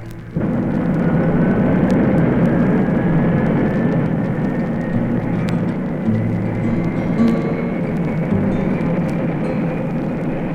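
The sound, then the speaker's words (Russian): A rocket launches from a rail launcher with a sudden, loud, sustained roar that rumbles steadily for about ten seconds, a thin rising whine threading through the thunderous noise. No voices. “А ракета пошла по рельсам.”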